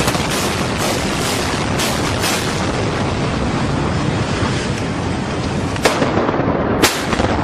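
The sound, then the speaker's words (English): Small explosions pop irregularly all around a city block, half a dozen sharp little booms, over a constant rushing roar of wind-like noise. Two of the later bangs stand out slightly louder than the rest. “I'm still hearing like little explosions all around, like around my block, but I don't know what's really going on.”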